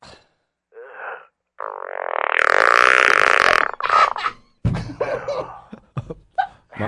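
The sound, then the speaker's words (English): A short blip, then a long, loud, buzzy fart sound effect lasting about two seconds, played from a phone's small speaker, followed by people chatting and laughing. “My phone just farted.”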